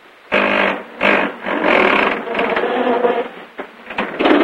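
A roadster's engine, after the car swerves into a pole on a deserted street, cranks in a series of loud, buzzing bursts, cutting out and starting again several times without ever catching.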